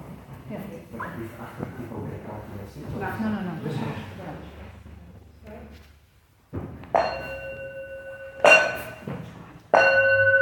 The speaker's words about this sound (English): Good way to end. Thank you. do the four bells.